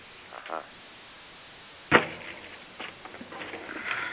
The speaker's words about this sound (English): My phone. Sorry. That's very modern farming, you know. The blackberries. They sound like that.